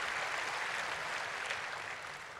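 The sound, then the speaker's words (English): A crowd claps steadily throughout, a dense, even wash of many hands with no speech over it, holding loud before easing slightly at the end. “Yeah, there's another good time to clap.”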